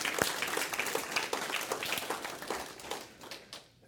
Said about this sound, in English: So we're excited about that. Yeah, you can clap. That's good. That's good.